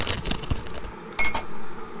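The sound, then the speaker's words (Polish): A spoon scrapes and taps against a glass while one teaspoon of granular Żołędziówka acorn coffee with added ginseng is tipped in, with a couple of bright clinks and a soft rustling pour, no voices. “Okej, woda się już gotuje, a ja sobie nasypię jedną łyżeczkę.”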